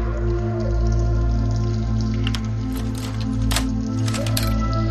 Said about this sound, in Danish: Hvorfor fortsætter vand ud?